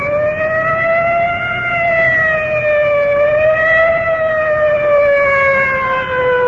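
A fire department rescue squad vehicle's siren wails loudly and continuously far off, its pitch gently rising and falling as it rolls in, with steady traffic rumble underneath and no one speaking.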